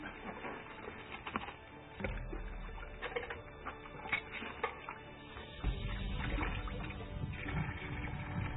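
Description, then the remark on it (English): A tiny spring runs out of hard rock, trickling steadily: a continuous light splashing and patter, with occasional bumps and low rumbles of movement. “Just a little tiny spring running out of this hard rock.”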